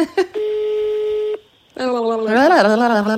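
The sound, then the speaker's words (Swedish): An outgoing phone call to a mother rings out: one steady, electronic ringback tone lasting about a second, then a short silence before a voice comes in loudly. “Jag hatar när vi ringer henne och hon inte svarar, för det är så jobbigt att klippa.”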